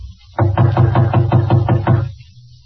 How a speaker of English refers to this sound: Oh, yes, here it is, 5D. Evidently, he's home, too. The door's partly open. If he's home, why doesn't he answer? I'll knock again.